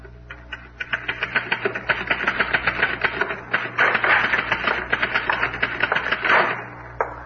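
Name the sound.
typewriter typing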